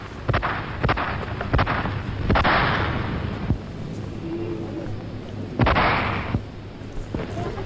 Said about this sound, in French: Sur ces avenues vides, Paris sent que quelque chose se prépare. Et soudain, claque le premier coup de feu.